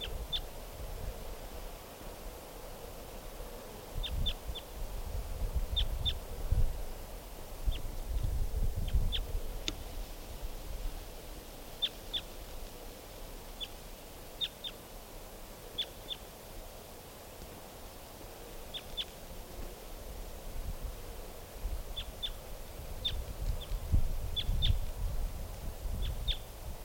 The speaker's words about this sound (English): I think it's a male. Wild bird.